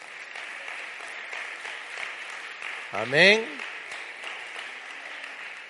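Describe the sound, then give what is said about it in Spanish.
During a church sermon, an audience applauds "the king" steadily for several seconds, a dense crackling wash of many hands clapping, while a single voice briefly calls out a word partway through. “Dar un aplauso al rey.”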